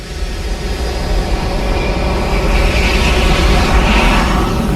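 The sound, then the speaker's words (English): A loud, continuous roar of a jet engine fills the whole stretch, a dense rumbling wash with a hissing high end that swells slightly partway through, no voices present. “We can take you from a pin drop to the thunder of a jet engine.”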